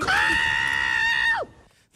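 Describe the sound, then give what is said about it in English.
A woman lets out a single sustained, steady scream lasting over a second, loud, ending in a sharp downward drop; it sounds flat and exaggerated, like a fake scream. “that is one of the worst fake screams I've ever heard a person do.”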